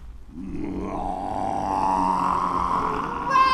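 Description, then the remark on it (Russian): A deep, rumbling lion roar swells up and holds for about three seconds, loud, with a brief brighter tone cutting in at the very end. “Глядите, я превращаюсь в льва.”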